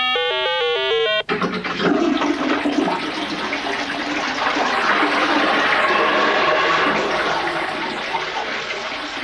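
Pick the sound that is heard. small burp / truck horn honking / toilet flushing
toilet flushing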